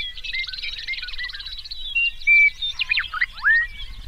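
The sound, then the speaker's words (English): In summer grasslands of southern Saskatchewan, meadowlarks and bobolinks sing together in a lively chorus, a bubbling, rapid trill giving way to clear, ringing slurred whistles, over a soft low outdoor rumble with no voices. “Meadowlarks and bobolinks combine their voices in a rich, ringing chorus.”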